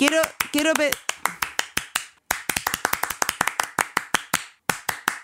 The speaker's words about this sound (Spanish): Quiero decirte algo. Quiero aplaudir.